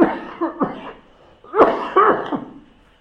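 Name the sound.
coughing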